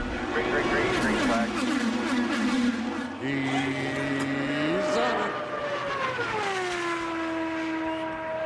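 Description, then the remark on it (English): Loud, continuous roar of race car engines at high revs at the Indianapolis Motor Speedway in Indianapolis, Indiana, their whining pitch rising and then sliding downward as the cars sweep past on the track. “From Indianapolis, Indiana, scene of the world's greatest race cars, welcome to the Indianapolis Motor Speedway.”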